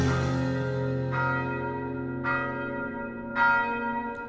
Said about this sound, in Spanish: A ver, mientras suenan las campanas y le he hecho aquí un café a la jefa,